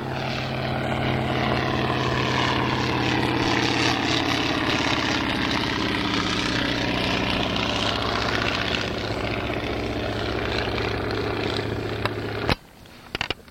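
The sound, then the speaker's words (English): A light Porterfield propeller airplane roars past low on a flyby, its steady engine drone with strong harmonic hum sweeping in pitch as it passes, then cutting off abruptly near the end. “Engine on it, Porterfield, Ken Williams is a distinctive sound.”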